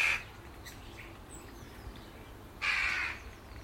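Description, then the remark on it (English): Two harsh, raspy crow caws ring out a few seconds apart, one brief and one longer, loud against quiet outdoor background noise with no talking, as crows fight with magpies in the air. “Crows fight with magpies.”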